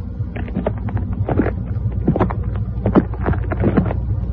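Slow, uneven footsteps of someone coming up a hill crunch over frosty grass, each step a short crisp crackle, with a low steady rumble of wind underneath and no voices.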